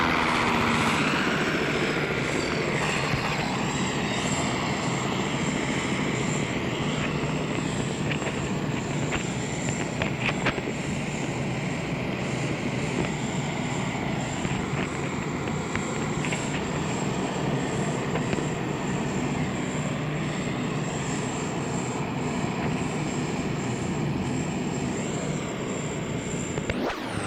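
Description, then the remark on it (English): A loud aircraft engine runs at high power as the plane sits in position on a runway before takeoff with its brakes locked, a dense continuous roar with a thin high-pitched whine on top, holding steady throughout with no voices. “He's got his engine wound up real tight.”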